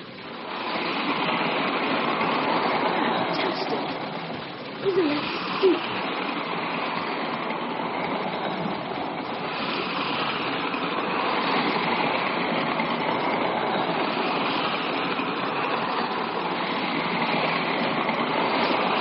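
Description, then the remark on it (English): A train, the 308 non-stop to Southdown, runs steadily along railway tracks, a continuous rushing rumble that holds for the whole stretch, broken only by a couple of brief clanks partway through. “This is the 308 non-stop to Southdown. It is due to arrive at 3:15.”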